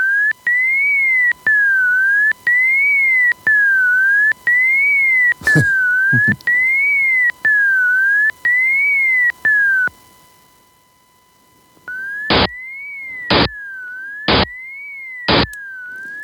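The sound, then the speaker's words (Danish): A pure electronic tone glides repeatedly up and down in pitch, first on its own, then with four short, loud bursts of noise cutting into it at regular intervals. “Så indsætter man støj imellem de her små stumper, og så lyder det pludselig, selvom der ikke er nogen tone”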